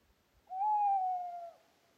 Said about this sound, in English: They kept listening, and soon they could hear an owl's call.